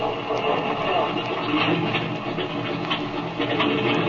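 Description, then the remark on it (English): An airplane engine, started from the rear cockpit and left to idle to warm up, starts up and runs with a steady, rough, noisy roar and faint crackling bursts, holding an even loudness throughout with no voices. “Well, I guess I'd better get in this rear cockpit and start the motor.”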